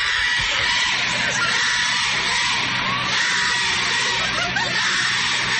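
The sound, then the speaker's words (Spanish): A dense crowd of women gathered outside the Constitutional Court in Colombia shouts and cheers continuously, celebrating the decriminalization of abortion and shouting that it is law. Voices overlap in a loud, sustained roar with occasional higher whoops rising above the din. “La número 1 en Colombia es ley, que es lo que están gritando afuera de la Corte Constitucional las mujeres que están congregadas celebrando la despenalización del aborto.”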